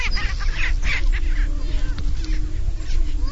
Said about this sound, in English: It's 5 a.m., pitch black with just a glimmer of light on the eastern horizon. It's hard to make out the prairie chickens, but you can already hear them.